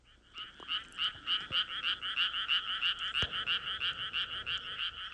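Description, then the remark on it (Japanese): A dense chorus of frogs croaks all at once, a steady rapid pulsing of overlapping calls that stays loud and even throughout, with no voices. “そしてカエルが一斉に泣き出した。”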